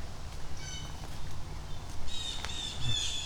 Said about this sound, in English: And I keep thinking I'm hearing an angry bird up here, which might mean we have owls up here.